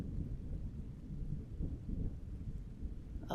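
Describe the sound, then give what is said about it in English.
A low, rolling rumble of thunder from a storm that is approaching, deep and sustained for a few seconds at moderate volume, with a faint wash of rain-like hiss above it and no voices. “Oh, I guess the storm might be getting a bit closer.”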